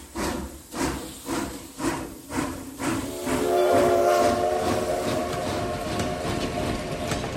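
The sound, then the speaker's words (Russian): A train rolls along the rails with a rhythmic clickety-clack of wheels over joints, then a sustained horn sounds over the steady rumble, loud, with no voices. “И час спустя уже сидел в вагоне.”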